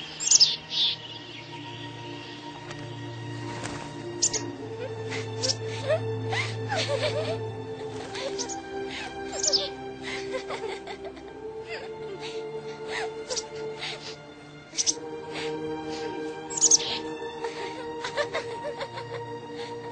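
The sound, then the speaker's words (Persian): Birds chirp and sing throughout in the mountains, with bright, rapid tweets scattered over a steady background, some calls sharp, others softer, alongside a low sustained hum. “پرنده ها با شما هم صحبت میکنند؟”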